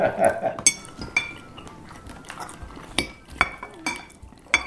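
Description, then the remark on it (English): Forks and knives clink sharply against plates at an uneven pace as people eat beef tamale pie, several bright metallic taps with short ringing tails, over a low murmur of a meal in progress. “Although listening to that tape, dude, doesn't that sound gross? I feel like we're eating that horse or something.”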